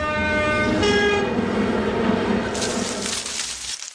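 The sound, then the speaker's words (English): A voice imitates a train: a sustained, horn-like hoot for a couple of seconds, then a loud breathy hiss like escaping steam, steady before cutting off abruptly. “They beat train every time.”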